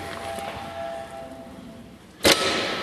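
A doorbell rings once, sudden, after a stretch of quiet background noise, with a faint ringing tail that lingers to the end.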